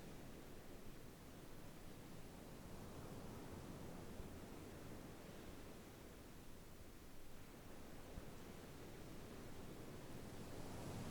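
Soft, steady rush of ocean surf with gentle swells rising and easing, a continuous wash of waves coming and going with no voices.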